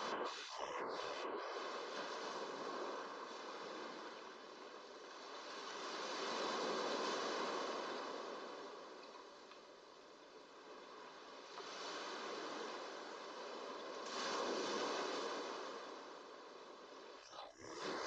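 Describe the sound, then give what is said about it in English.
Steady ocean surf rolls in and recedes onto a sandy shore, with broad hissing swells cresting every several seconds, a soft continuous wash of waves breaking. “The waves caress your stomach and chest.”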